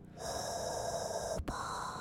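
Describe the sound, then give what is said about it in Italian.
A voice imitates Darth Vader's raspy, hissing respirator breathing: one long, steady draw of air, a brief cutoff, then the airy rasp starts again. No speech. “E non è semplice farlo preciso, perché è un misto tra una caffettiera e un respiratore.”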